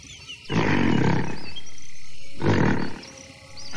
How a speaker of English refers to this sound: It sounds like he's burping. B-U-R-P-I-N-G.